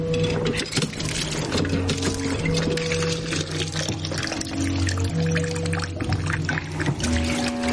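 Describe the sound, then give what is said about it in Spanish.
Water gushes from a hand pump onto a dish of potatoes in a house in snowy winter, in a steady, continuous splashing stream, fairly loud throughout, with low sustained tones humming underneath. “Pone una fuente con patatas bajo una bomba manual de agua y la acciona.”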